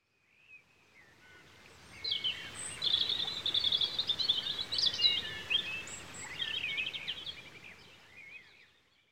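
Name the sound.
birdsong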